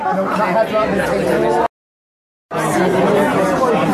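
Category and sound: crowd, crowd chatter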